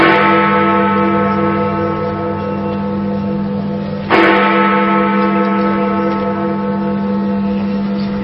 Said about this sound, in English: The famous bell at the British Houses of Parliament, Big Ben, has chimed for 3 minutes non-stop as part of a nationwide bell ringing in the build-up to the opening ceremony at the Olympic Stadium in East London.